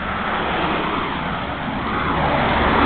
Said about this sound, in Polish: Jestem przy drodze na pewno, którą słychać. No i samochody normalne jeżdżą, nie widzę tu furmanek czy coś takiego. Normalnie jakieś SUV, jakieś terenówki, busiki, dostawce.